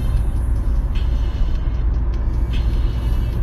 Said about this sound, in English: In this moving car.